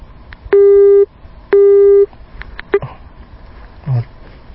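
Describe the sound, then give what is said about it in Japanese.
Two loud, steady electronic beeps of a phone busy tone after the other party hung up on a call to a company office in Shizuoka, each about half a second long with a short gap between them, followed by a clipped third beep and faint background noise. “電話を切られてしまいました。”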